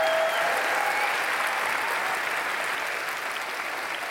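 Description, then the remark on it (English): A crowd in Louisville, Kentucky applauds the evening's musical guests steadily, a dense wash of many hands clapping at an even, loud level that eases off only slightly toward the end, with no voices standing out. “Also, let's give one last round of applause to our amazing musical guests”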